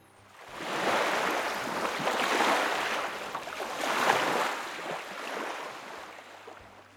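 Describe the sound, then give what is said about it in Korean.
A steady rush of flowing river water, full and fairly loud, swelling and easing in gentle surges over several seconds with no voices. “강물도 되고.”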